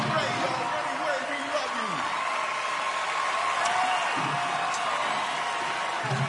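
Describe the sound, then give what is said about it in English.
A large crowd roars and cheers wildly, a dense, steady wall of noise lasting the whole six seconds, with occasional higher whoops rising above the din. “It's the crowd. The crowd goes wild.”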